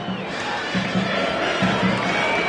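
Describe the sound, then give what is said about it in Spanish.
A large football stadium crowd at Platense roars steadily as the Gimnasia players come onto the pitch, a divided, hostile reception with shrill whistles streaking above the din and scattered applause mixed in, dense and continuous throughout. “Algunos silbidos y algunos aplausos, dividido.”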